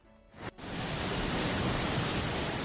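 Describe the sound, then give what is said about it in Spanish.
The Eresma river in flood as it passes through Segovia, Spain, on red alert for flooding from heavy rains, roars with a dense, steady rush of churning water that swells up after a brief quieter moment and holds loud and unbroken, with no voices. “Esto que escuchas es el río Eresma, a su paso por Segovia, una de las provincias en alerta por fuertes lluvias de cara a esta tarde.”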